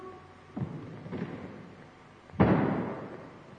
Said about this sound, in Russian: Тяжелая бронзовая дверь захлопнулась за спиной юноши.